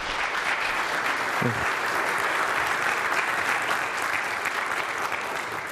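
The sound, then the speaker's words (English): A crowd applauds steadily to welcome teacher Baruch Korman, many hands clapping in a dense, even wash of sound that holds at the same loudness throughout without fading. “Well, I can already say that I like this group much better than the earlier one. The first group didn't clap when he called, so.”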